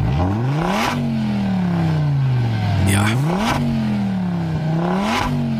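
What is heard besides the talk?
sports car engine revving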